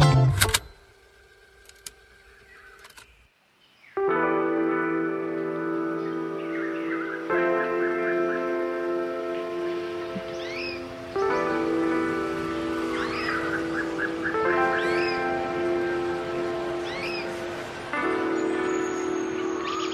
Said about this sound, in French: Et oui, des oiseaux.